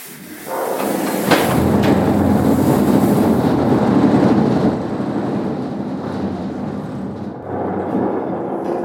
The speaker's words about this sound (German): Hans Zapf zieht den Sprengvorhang herunter und plötzlich rumpelt's und scheppert's und staubt's wie bei einem Erdbeben.